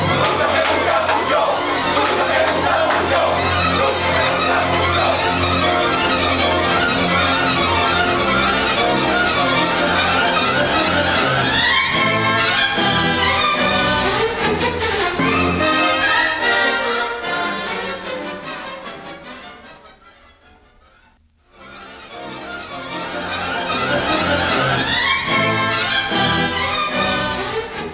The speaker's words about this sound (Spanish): Una larga ovación ha seguido a las palabras del gobernador Alvariza.